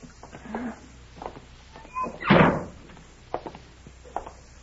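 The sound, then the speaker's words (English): A side door is opened: a brief thin creak, then a single loud, hollow thud, followed by a few faint knocks and shuffles in the quiet. “Let's try that side door.”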